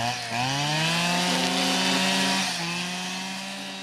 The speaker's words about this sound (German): nimmt den Grasschneider und mäht weiter.